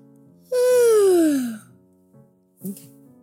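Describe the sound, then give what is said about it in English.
A person lets out a long, loud yawn that slides downward in pitch and trails off after about a second, followed by a soft breathy exhale. “Sorry, I've just yawned.”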